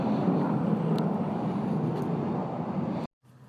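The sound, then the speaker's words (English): A steady, loud roar of military jets passing overhead in the morning, about 20 airplanes scrambled out of Hill Air Force Base doing maneuvers; a broad rumbling whoosh that holds for about three seconds before cutting off abruptly. No one speaks. “There's been about 20 airplanes scramble out of Hill Air Force Base doing maneuvers.”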